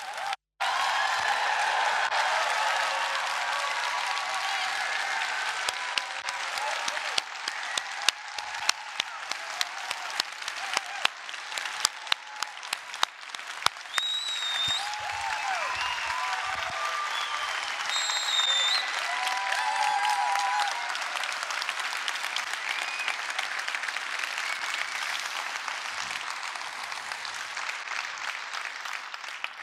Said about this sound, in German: Auch ihn begrüßen wir mit einem euphorischen, tosenden Applaus für euch auf dieser Bühne, Rob Wergin.